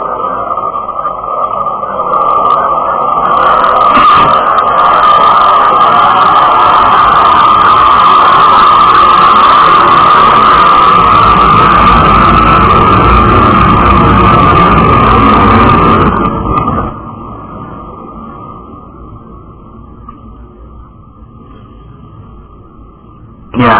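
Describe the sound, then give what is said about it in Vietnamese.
A loud airplane roars overhead, a broad rushing drone with a steady high whine that holds for about fifteen seconds, then drops off sharply and leaves a quieter background. “Lúc máy bài nó bài ồn quá, thành ra chúng tôi im lặng ít xíu, khi nó bài qua rồi chúng tôi sẽ tiếp tục”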